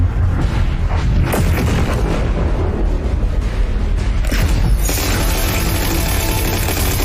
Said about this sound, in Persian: اونا تعدادشون خیلی زیاده. دارن شلیک میکنن، پناه بگیرید.